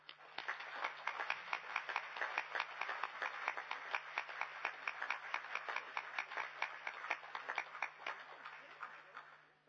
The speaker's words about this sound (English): His first session that he attended was in 1976. That is quite a record of commitment. So I think he deserves a round of applause.